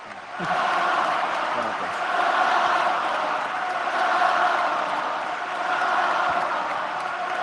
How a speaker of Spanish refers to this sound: No le dejan hablar. Sigue ovacionando en pie todo el Carpena y no dejan hablar a Rafa.